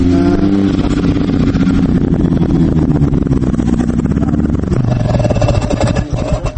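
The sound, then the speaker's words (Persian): A snowmobile, a vehicle made for snow-covered roads, runs loud, its rough, rattling motor revving with rising and falling pitch before settling slightly near the end, with no voices over it. “این موتورسیکل برف کرد. من اولین بار می دیدم این گونه نقلیات رو، این مخصوص برای چنین راه‌های پر برف بوده است.”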